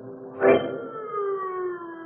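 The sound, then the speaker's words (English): A siren wails loudly after a sharp burst, its steady tone slowly sliding lower as it winds down, continuous with no one speaking. “The sound of the sirens howled in his ears like the wail of an avenging demon as the man ran from the gaunt gray building behind the high wall.”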